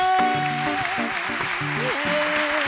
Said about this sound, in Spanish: Yo creo que se merecen un aplauso.